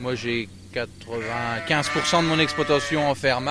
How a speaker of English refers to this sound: Arnaud Morin, feeding his 80 black-faced Suffolk sheep.